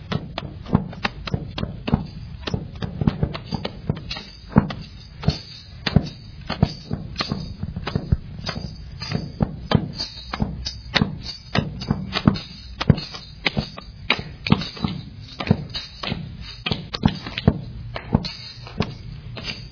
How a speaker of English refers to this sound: Have some foot stomping, that's good.